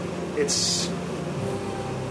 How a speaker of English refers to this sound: Our listeners are relieved the fan has been shut off. Yeah, I'm sorry about that. But I was convincing them that was a sound of the meat cooking